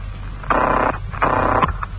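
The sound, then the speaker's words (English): A telephone rings in two short, buzzing bursts with a brief pause between, each a rattling trill over a low steady hum, with no voices. “It's ringing now.”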